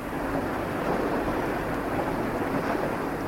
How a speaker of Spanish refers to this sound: Y al llorar se formó una fuerte lluvia.